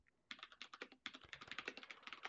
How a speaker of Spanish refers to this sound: Sonido de El teclado.